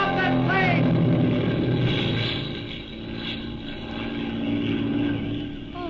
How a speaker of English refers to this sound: Look, the plane is starting to take off.